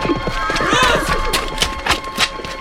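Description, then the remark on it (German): A horse's hooves clip-clop in a steady, evenly spaced rhythm on hard ground as the stolen horse is led away from a makeshift fenced enclosure, with a brief whinny early on and faint background noise. “Der Indianer hat das Pferd gestohlen!”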